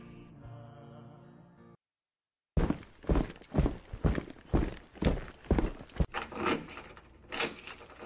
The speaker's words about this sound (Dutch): En plots hoorden we zware stappen op de gang.